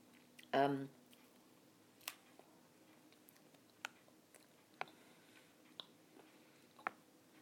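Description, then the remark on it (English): Someone chewing food, with soft, irregular wet clicks and smacks spaced a second or so apart, after a brief voiced murmur at the start. “Excuse me chewing.”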